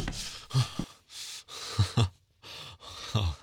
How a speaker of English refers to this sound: Oh, I heard that. That little gasp.